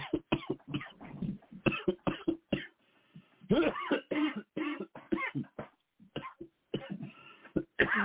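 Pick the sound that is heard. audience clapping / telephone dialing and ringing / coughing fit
coughing fit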